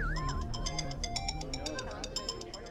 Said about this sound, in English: the alarm in Charles's office is going off. Is that a problem? Which one? The one near his desk, his workbench, or the mechanical swans?